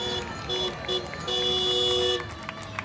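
Car horns honk repeatedly as rally vehicles arrive past a noisy crowd of thousands of motorsport fans on the access road to the Dakar Rally camp in Salta: short toots, then a long sustained blare, with the steady rumble of vehicles and voices filling the background.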